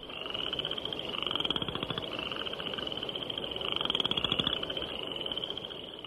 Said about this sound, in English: spring peepers whose once-per-second ascending peeps can be heard day and night, and western chorus frogs, whose call is often compared to the sound produced by running a stick over the teeth of a comb.